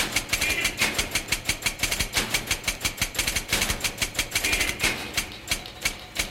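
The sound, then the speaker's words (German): Office machines clatter in a fast, steady rhythm, played as a concerto for office machines like the one by Swiss composer Rolf Liebermann, with sharp mechanical clicks and thumps repeating like a musical beat. Fairly loud and continuous, with no voices. “Der Schweizer Rolf Liebermann schrieb ein Konzert nur für Büromaschinen.”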